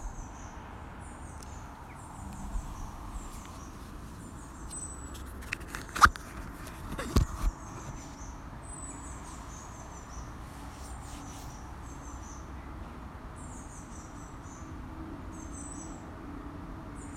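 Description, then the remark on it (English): Outdoor ambience in a leafy woodland glade behind an office building: short, repeated high chirping calls run throughout over a steady low rumble of cars on the very busy A470 road running up from Cardiff, with a few sharp cracks or snaps in the middle. “enjoy waiting for my first meeting of the day in a lovely leafy glade that I have here at the back of the building”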